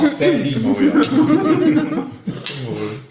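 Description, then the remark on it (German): A couple of glasses, one holding mineral water, clink together in a toast, brief bright chimes partly buried under people talking and chuckling throughout. “Darauf möchte ich mit meinem Mineralwasser anstoßen.”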